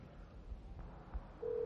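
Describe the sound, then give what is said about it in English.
A steady electronic telephone ring tone starts abruptly near the end and holds, fairly loud, after a stretch of low background rumble and faint clicks. No one speaks. “You hear that? Look at that. It's ringing and everything.”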